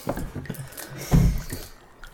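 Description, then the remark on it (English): Wet, bubbling gurgles in a damp sewer, irregular low sloshing pulses with one louder, deeper surge midway before settling back to quieter drips and burbles. No voices. “God, the sound of gurgling.”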